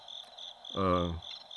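Crickets chirp steadily in a high, continuous trill throughout, briefly joined midway by a short, low, buzzy tone before the chirping carries on alone.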